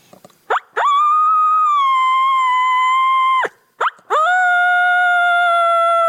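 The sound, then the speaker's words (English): A predator diaphragm call, flipped over with the short reeds up, blown to imitate a wolf howl: two long, steady howls on a constant note, each opening with short rising yelps, the second held on a lower note. No talking. “But what I found out early is I could flip this diaphragm over, get the short reads up, and I could howl with it. It keeps a constant note.”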